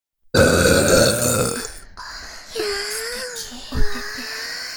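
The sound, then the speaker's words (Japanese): Several loud burps after drinking carbonated water come one after another: a long, rough, rumbling belch first, then two shorter, more tonal burps close together, with no talking in between. “お兄さん、私たちのゲップ、聞いてください。”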